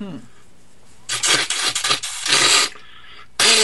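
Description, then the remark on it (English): Someone who is getting stuffed up blows their nose hard: a run of loud, harsh, hissing bursts lasting over a second, a short lull, then another forceful blast. “Blow my nose on the air. Getting stuffed up.”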